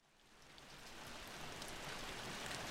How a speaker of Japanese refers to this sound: 恵みの雨とは言いますが、世間一般では雨降りとは嫌がられるものなのです。 ああ、まだ雨だよ。